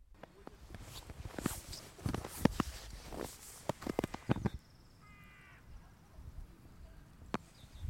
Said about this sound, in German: In 2 Minuten sind wir am Luitpoldpark und stapfen durch den Schnee.